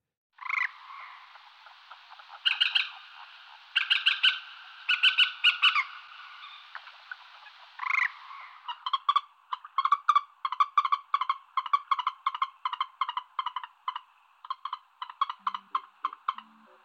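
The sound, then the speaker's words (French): A common moorhen gives harsh, croaking calls, first in a few separated bursts, then in a quick stuttering run of sharp notes, fairly loud with no voices. “Eh oui, c'est la poule d'eau!”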